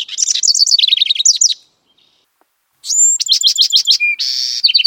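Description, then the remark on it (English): A songbird sings a bright, varied song of rapid repeated chirps and trills, pauses briefly, then resumes with sweet whistled phrases and buzzy notes, clear with no voices. “Their songs have been described as prolonged, varied, and expressive, as well as sweet and exquisitely tender.”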